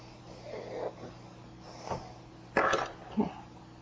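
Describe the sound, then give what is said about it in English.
A single sharp, explosive sneeze bursts out, with a brief breathy intake before it and a smaller snort-like exhale just after. “Oh, sneeze. That made a mess.”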